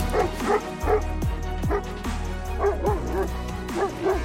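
A dog barks repeatedly at a huge bear outside the house, a quick run of sharp, fairly loud barks mixed with higher yips and whiny notes, coming in uneven bursts over a few seconds.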